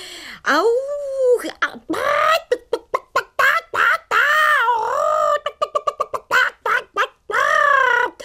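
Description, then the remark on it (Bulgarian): A voice imitates a hen cackling furiously as it chases chicks around the neighbours' yard: long, wavering squawks alternate with quick runs of sharp, staccato clucks, loud and insistent throughout, with no other talk. “След няколко несполучливи опита, нашата кокошка успяла да прилети през оградата на съседите и да подгони с яростно куткодякне пилетата из двора.”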